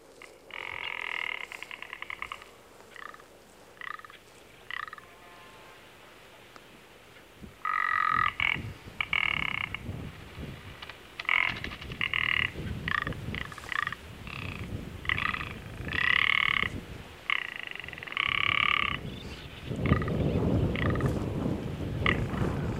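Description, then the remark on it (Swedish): A rock ptarmigan gives a run of dry, croaking rattles, short harsh bursts repeated in uneven clusters, fairly loud over a steady rush of wind. “Och vi kanske hinner lyssna lite grann på hur fjällripan låter också.”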